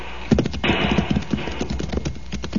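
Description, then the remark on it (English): Horse hooves clip-clop in a quick, uneven rhythm of sharp knocks as horses, including one named Diablo, jump over a boulder on a trail, over a steady rushing background noise, with no talking. “Jump your horse over, amigo. I think the horses can just about make it.”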